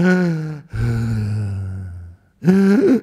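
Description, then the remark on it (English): A voice imitates a meditator's loud, heavy breathing: three strong, voiced heaves with short pauses between them, forceful, with no words spoken. “Because this meditator was breathing very loudly.”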